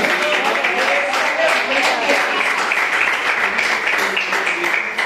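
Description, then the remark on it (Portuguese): A church audience claps together in praise of the Lord in a dense, steady wash of applause that stays loud throughout, with voices mingling underneath the clapping. “E as palmas que louvam o Senhor.”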